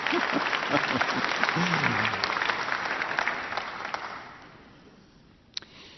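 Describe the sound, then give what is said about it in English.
A crowd claps steadily in a dense, crackling burst of applause that thins out and fades after about four seconds, followed by quiet and a single sharp tap. “I thought you could have clapped there, but if you're not ready to die, then don't clap.”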